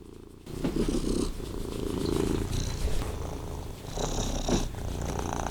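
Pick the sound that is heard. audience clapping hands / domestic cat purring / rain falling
domestic cat purring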